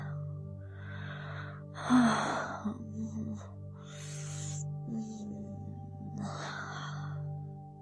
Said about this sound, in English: Ah, my harsh breathing.